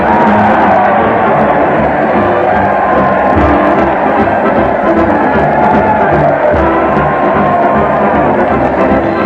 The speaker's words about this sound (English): Listen to that crowd. They're cheering in the streets as Fred Allen leads his weekly parade to the old Town Hall.